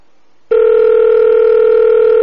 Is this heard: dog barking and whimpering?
no